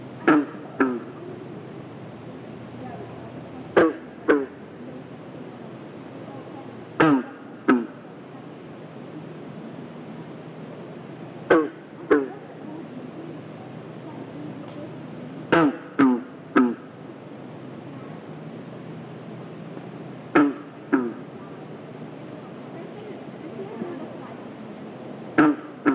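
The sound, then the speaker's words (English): Green frogs on the shore of Flagstaff Lake in Franklin County, Maine, give short, plucked, banjo-like gulps, often in quick pairs, repeating every few seconds over a steady wash of soft background noise. “Green frogs can be heard throughout the state of Maine from spring through late summer.”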